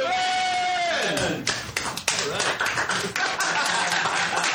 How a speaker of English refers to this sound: Boothman! All right. Applause for Boothman. In case it hasn't been properly established, Boothman lives in the booth.